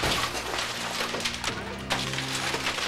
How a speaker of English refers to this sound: rushes to a side window. Get back! He smashes it with his container.